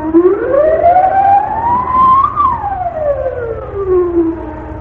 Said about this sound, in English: Alarm! Set off the alarm!